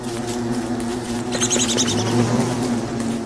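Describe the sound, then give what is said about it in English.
A steady, dense buzzing drone of individual bees recorded at a beehive, layered with a kazoo buzzed through by a person for a nasal hum, with brief high fluttering chirps partway through; no voices. “Those are a combination of a beehive that I found and recorded.”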